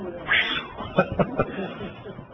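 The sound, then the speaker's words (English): A cat meows in a few short bursts, one rising sharply near the start and then three quick cries in a row, against a faint background hiss. “oh, there's a kitty!”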